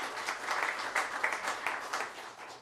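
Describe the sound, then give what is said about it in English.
A crowd claps steadily for a few seconds, honoring 15 years of service at Davis Park Golf in Davis County; a dense, even patter of many hands with small swells and no voices standing out. “Kelly Bishop, in case you see him, let's give a little applause.”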